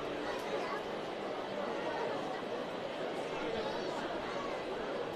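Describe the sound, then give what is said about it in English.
A steady murmur of crowd chatter at a baseball game on a Sunday afternoon, many overlapping voices blending into a continuous, even wash of sound with no single speaker standing out. “Nice crowd on hand on this Sunday afternoon.”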